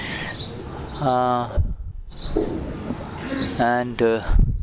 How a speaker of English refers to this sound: The birds are chirping away. They are also enjoying this satsang.